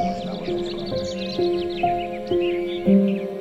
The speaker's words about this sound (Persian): گنجشکای بازیگوش رو صدا میزنم بیان بشینن رو شاخه هام، سرشماریشو میکنم و میشم رهبر سمفونی گنجشکا. تو اوج سر صداشو میگم آرومتر.